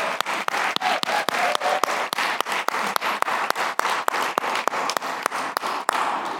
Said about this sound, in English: And so I am just, honestly, we should give a clap offering to God that we're even here together again.